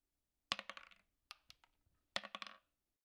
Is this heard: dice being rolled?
yes